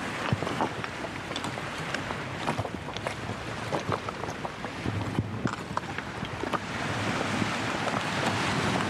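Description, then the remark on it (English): A steady, hissing wash of waves and wind on a bay shoreline in gloomy, rainy weather, with scattered light pattering ticks of raindrops throughout, growing slightly louder toward the end; no voices. “Out walking the shoreline. Can't even see the turbines out in the bay. It's so gloomy, raining.”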